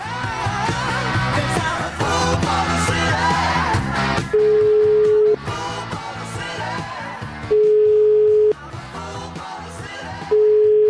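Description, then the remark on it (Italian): A phone line rings out in steady one-second tone bursts, three of them separated by short pauses, over a loud, busy music bed, as the Milan radio show La Zanzara calls politician Franco Antonio Genovese. No one speaks. “Io una telefonatina alle 20:25, ora italiana, Milano, la Zanzara, gliela farei.”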